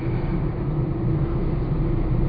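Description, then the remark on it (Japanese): Steady low rumble inside the speaker's usual commuting car, driven behind another car with the heater on, on Sunday 25 March 2007 at about 1 pm; a constant engine and road drone fills the cabin with no talking, even and moderately loud throughout. “今その後の三人の乗ってる車の後ろをついて走っています。”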